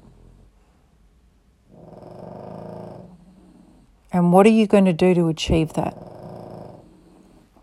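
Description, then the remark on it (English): A dog snores in low, rumbling breaths, two slow drawn-out snores with a person speaking briefly between them. “And again, I hope you've enjoyed my dog snoring.”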